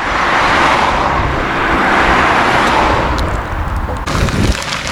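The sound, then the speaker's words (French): A car carrying a retired couple stops to pick up a hitchhiker: its engine and tyre rumble loud and steady, then the sound shifts near the end as the vehicle slows and comes to a stop. “Une voiture s'arrête avec un couple de retraités.”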